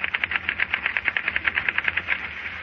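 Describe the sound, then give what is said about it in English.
Office typewriters clatter in a rapid, steady stream of sharp mechanical keystrokes, overlapping into a continuous busy rattle with no voices present. “If your office is like many, your typewriters probably make this kind of noise.”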